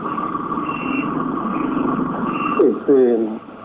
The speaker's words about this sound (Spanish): Están maniobrando los colectivos. Dos ya han pasado a la playa para hacer el transbordo.